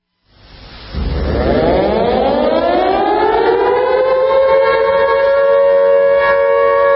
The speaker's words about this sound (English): Those are real air raid sirens going off in Russia yesterday for their national alert they did for nuclear war.